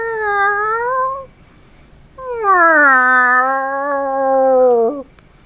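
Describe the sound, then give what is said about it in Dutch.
A big, angry cat lets out two loud, drawn-out meows, a shorter one followed after a brief pause by a longer, wavering yowl that sounds cross and insistent. “Grote boze kat kwam luid en miauwend verder.”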